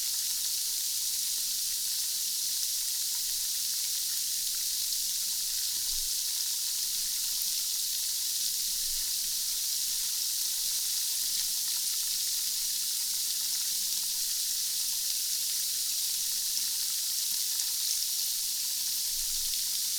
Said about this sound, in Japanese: 魔法の泡の音色は目に見えない汚れを洗い流します。